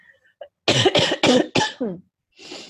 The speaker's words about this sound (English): I don't know if I'm ever going to get off this sinus cough that I have and own.